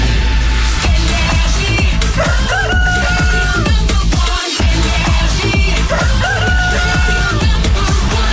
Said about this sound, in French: Il est 7h01, qu'on amène le coq.